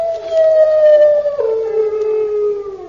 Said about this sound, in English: Only a dog. Come on. That's no ordinary dog. It's a hound.